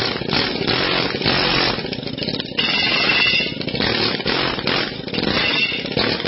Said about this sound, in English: There we go. Almost off. See, that's how you do it, Bruce, with an air hammer.